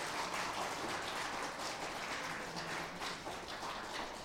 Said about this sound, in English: You may clap your hand. Praise the Lord.